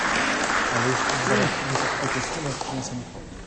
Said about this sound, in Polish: Ale po co te oklaski, kochani? Chwała Boża ma być, prawda? Chwała Boża.